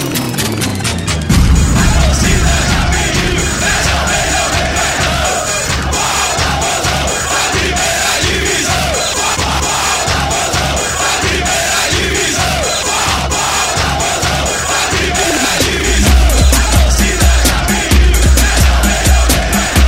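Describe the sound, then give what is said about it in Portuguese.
A large organized crowd of Bahia football supporters (torcida organizada) at the Nordestão chants and roars together in a loud, sustained wall of voices, with rhythmic pounding beats driving underneath throughout. “Torcida organizada, se alagou.”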